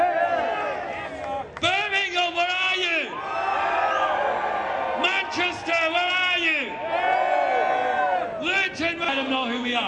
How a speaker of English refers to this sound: At this point, I want you all to give yourselves a round of applause. Come on. Yeah. Don't be wrong. Round of applause. Let's have some cheers. Woo! Glasgow, are you still here, Glasgow?